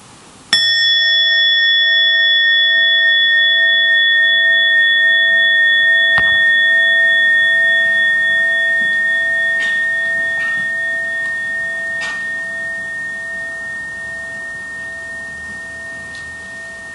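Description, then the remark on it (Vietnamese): A meditation bell is struck once, the second bell of a mindful breathing practice, ringing with a bright, steady tone and shimmering overtones that sustain for many seconds and fade slowly, with no voices. “Và lúc đó vị trí chung mới thỉnh tiếng thứ hai.”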